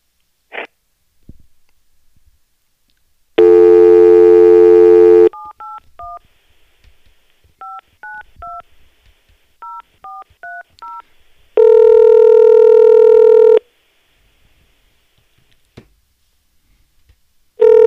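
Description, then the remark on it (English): A loud, steady telephone tone sounds for about two seconds, then a quick run of roughly a dozen short keypad beeps as a man's phone number is dialed, followed by another sustained loud tone. No one speaks. “Here's his number.”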